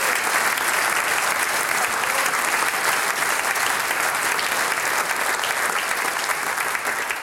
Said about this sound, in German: Einen großen Applaus nochmal für den Trachtler Dirndl Dreigesang für die wunderbaren Stimmen.